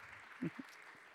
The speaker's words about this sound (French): Alors, le temps que tout le monde s'installe, je propose, alors si elles sont dans la salle, que nous applaudissions nos collègues ultramarines, notamment des Caraïbes. Alors, je vous propose qu'elles se lèvent et qu'on les applaudisse.